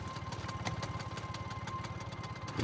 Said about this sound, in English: At night, the courtyard outside the workshop sits in almost total darkness. A light appears as a scooter drives through the entryway.